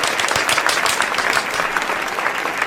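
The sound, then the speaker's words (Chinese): A wedding crowd applauds steadily as the host invites the groom to tell the couple's story, dense overlapping claps forming a continuous bright crackle at an even loudness throughout, with no voices heard. “下面让我们新郎自己讲讲他们的故事吧，掌声响起。”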